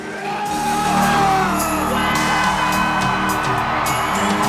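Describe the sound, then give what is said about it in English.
A crowd at an arm-wrestling match erupts in loud, sustained cheering as the match is won, with whoops, shouts and yells layered over a constant roar that stays at full volume throughout. “The crowd's gone mad.”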